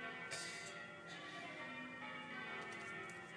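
Church bells peal continuously during Wednesday evening bell practice, fresh strikes landing every second or so over a sustained, overlapping ring, fairly soft, with no voices.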